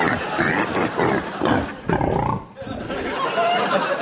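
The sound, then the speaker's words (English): Loud pig grunting sound effect: a run of rough, throaty snorts and grunts in quick irregular bursts, filling about four seconds with only a brief dip midway, as a pig emerges from a den. “Meanwhile, Ruth has just emerged from the den with one of the pigs”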